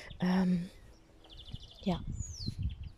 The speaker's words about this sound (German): Vielleicht hörst du die Vögel in meinem Garten.